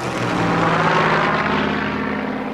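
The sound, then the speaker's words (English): The piston engines of a P-38 Lightning propeller aircraft drone loudly and steadily, a continuous roar with a throbbing low hum and no voices. “Having taken delivery of just three castrated Lightnings, the RAF realized that the plane's performance was severely limited.”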